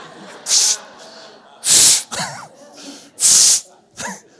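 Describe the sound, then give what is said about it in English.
Three sharp, loud hissing sprays of a spray bottle shot at a dog's face, evenly spaced about a second apart, apparently imitated with the mouth, with brief voiced sounds between them. “She goes, oh, I get a spray bottle and I shoot him in the face with it.”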